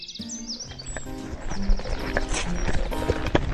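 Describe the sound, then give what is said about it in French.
Two horses' hooves clip-clop in a steady rhythm shortly before sunrise while birds chirp and tweet in the background, with no one speaking. “J'ai acheté 2 chevaux pour vous.”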